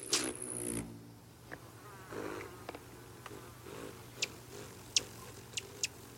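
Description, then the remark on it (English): A rufous hummingbird's deep wing buzz hums steadily throughout, joined near the end by several sharp, high chip-like ticks spaced about half a second apart. “The deep buzz of their arrival marks the start of summer.”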